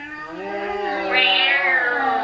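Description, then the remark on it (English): A single long, drawn-out cat meow, fairly loud, its pitch rising and swelling in the middle before trailing off, with no talking over it. “What yonder purring sounds do I hear?”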